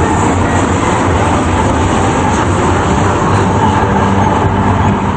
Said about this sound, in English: Its headlights shining, steam begins pouring from the engine, and its mighty wheels begin to turn. Breathing from his mouth, the wide-eyed young officer looks around, then swallows hard as the train pulls out of the station and into the dark night.